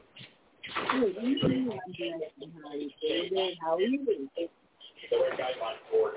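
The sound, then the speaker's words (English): A radio plays in the background, its muffled, tinny voice or singing running continuously over a narrow phone-like line, with brief pauses between phrases. “Somebody's got a radio.”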